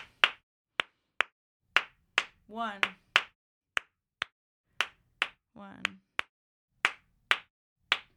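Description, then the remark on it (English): Sharp, crisp hand claps tap out a syncopated 5/4 clave pattern, a 2/3 son or rumba clave over 5/4, about fifteen claps in uneven groupings, with two brief vocal sounds slipped in between. “Can I put you on the spot on the 5/4 clave?”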